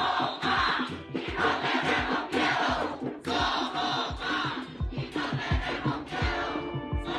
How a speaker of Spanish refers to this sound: Lo vimos durante las protestas masivas del 2019, cuando miles de personas se unieron para gritar a viva voz: "Somos más y no tenemos miedo".